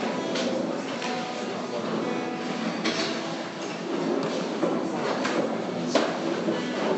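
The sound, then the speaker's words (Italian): A crowd of people stand up and shift chairs across a hard floor, a dense, continuous scraping and shuffling punctuated by sharper knocks and clatters, with faint murmuring voices mixed in. “Alziamoci in piedi per favore, spostiamo le sedie per un attimo.”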